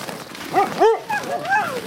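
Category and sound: animal, excited sled dogs barking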